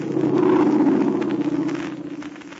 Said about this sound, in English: No such luck. It was somebody who means no good to any of our friends. We'll hear from that plane again, even though it may not land in ruined Min Chau.